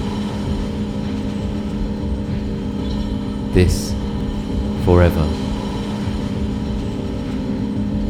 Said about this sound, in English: It's a train again.